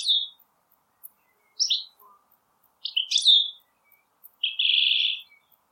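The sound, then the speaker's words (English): A goldfinch, recorded in Limerick, sings a series of bright, high twittering chirps and trills in short bursts, ending with a longer buzzy, wheezy note, with no voices and quiet gaps between phrases. “It's a goldfinch.”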